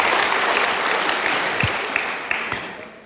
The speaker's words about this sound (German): Also das ist schon mal ein Applaus wert, dass man dann noch so jung und frisch und überhaupt aussehen kann.